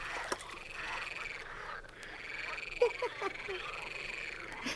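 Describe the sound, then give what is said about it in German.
A dense chorus of frogs croaking continuously, with a steady layered trill and a few louder croaks popping out around the middle, no voices present. “Mögen die Frösche seiner Puppenseele gnädig sein.”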